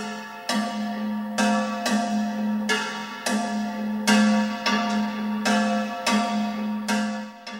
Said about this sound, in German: Dies ist eine aus Eisenblech geschmiedete Glocke aus dem Stadtmuseum Köln, aus dem 8. oder 9. Jahrhundert, im Volksmund Saufang genannt. Sie geht auf irische Wandermönche zurück und steht für die Anfänge der Glocke in Europa.